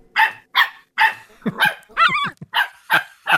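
dog barking

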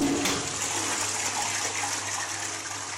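toilet flushing

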